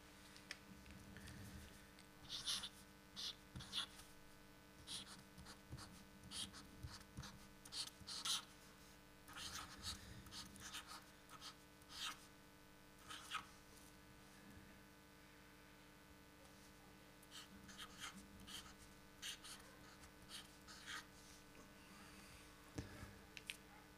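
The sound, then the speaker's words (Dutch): A pen writes a first line in black letters on a grey sheet of paper, scratching in short, irregular strokes with brief pauses between them, a soft, dry scraping with small ticks. It stays quiet throughout, with no voices. “De eerste regel is geschreven, zwarte letters, geschreven in zwarte letters.”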